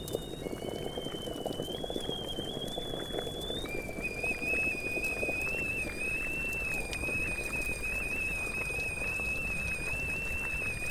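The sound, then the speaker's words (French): An electric kettle with adjustable temperature whistles steadily over a dense bubbling boil, its shrill tone wavering and then jumping up in pitch, sustained for the whole stretch. “Ouais, l'écriture est scandée par le sifflement de la bouilloire, parce que c'est les moments où je m'arrête un peu, où je fais une petite pause...”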